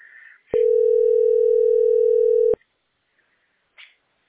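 A single steady telephone line tone, heard while on hold in the queue of a billing centre hotline, holds for about two seconds, loud and unbroken, then cuts off abruptly, with faint brief line noises before and after it.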